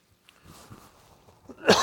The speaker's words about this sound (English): I need a cough pause button.